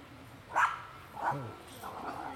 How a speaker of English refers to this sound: Dog fight. Three of them. All three of them are the size of a flea.